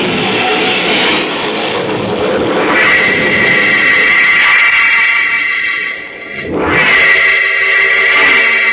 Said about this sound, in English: Steady the car. I can't. We're skidding. The brakes won't hold. We're going over the cliff.